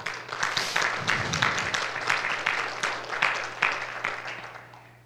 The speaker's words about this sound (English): How about we give him a clap?